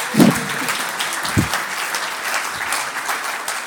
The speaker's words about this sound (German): Sie ist da und sie schwebt ein und sie schwebt ein. Bitte kommen Sie, Frau Wille, unter dem Applaus der